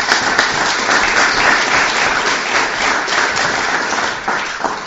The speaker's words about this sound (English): So let's give Pamela a round of applause.